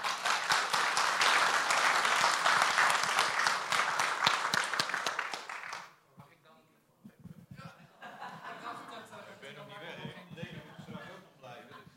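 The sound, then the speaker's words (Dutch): Loud, dense applause from a crowd for a departing acoustic guitar player, a steady roar of many hands clapping for about six seconds, then it fades out and people start talking. “Dus ik zou zeggen nog daverend applaus voor deze vent.”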